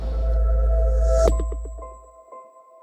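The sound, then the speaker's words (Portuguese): A short intro sting: a deep droning bass and a rising whoosh swell to a sharp hit, then bright sustained electronic tones and a few sparkling blips ring out and fade. No one speaks. “Fica aqui com a gente depois da vinheta que a gente vai falar tudo sobre isso daqui a pouco.”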